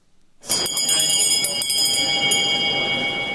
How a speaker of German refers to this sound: Wenn in Bern die Glocke läutet, dann weiss man, was es geschlagen hat.